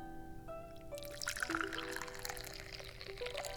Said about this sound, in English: And now it's time to pour the tea.